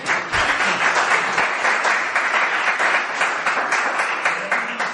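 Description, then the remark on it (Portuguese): An audience applauds a speaker before his talk, steadily for the whole stretch, a dense, even wash of many hands clapping at once, with a faint murmur of voices underneath. “Bueno, moitas gracias, é a primeira vez que me aplauden antes de falar.”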